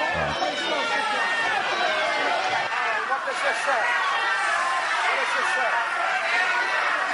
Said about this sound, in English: Well, that's just screaming. No, please, those are people screaming at a politician, a Democrat. That's not permitted.